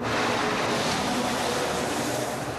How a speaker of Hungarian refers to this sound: Száguldozó autók Bereg Rákos főútján.